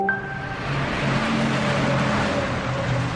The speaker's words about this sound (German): Da rauscht der Verkehr über die Autobahn, im Moment noch ohne Maut.